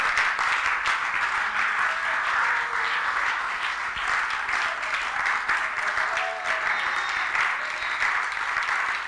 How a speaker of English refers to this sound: I like the way you are clapping. It's spontaneous. It's from your heart. It's natural. It's unto God. It's unto his glory.